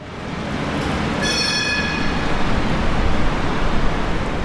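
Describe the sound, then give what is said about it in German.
A train rumbles steadily past at Praterstern U-Bahn station in Vienna, a high metallic wheel squeal rising briefly over the roar before the heavy rolling noise continues, with no voices. “Der Vorplatz des Wiener U-Bahnhofs Praterstern ist kahl.”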